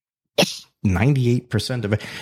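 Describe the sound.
One quick, sharp sneeze bursts out, followed by a brief pause and then a person talking steadily over the rest of the moment.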